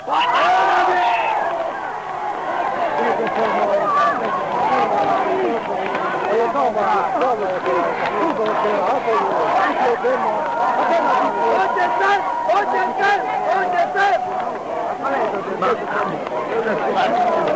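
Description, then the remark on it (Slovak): A large crowd at a Slovak-language political speech shouts and calls out continuously to the speaker from below, a loud, dense mass of overlapping voices with no single speaker standing out, sustained for the whole stretch. “A nie, mi kričia zo spodu.”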